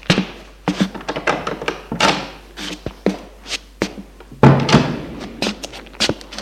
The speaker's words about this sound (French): Richard ouvre la porte communicante.